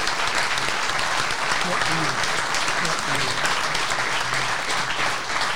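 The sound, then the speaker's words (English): Sustained, dense applause from a large crowd giving a standing ovation to people who came from New York and Denver for the event, steady and loud throughout with a bright crackle of many hands clapping, and faint voices and cheers mixed underneath. “Everyone's going to give these people a standing ovation because this is no joke.”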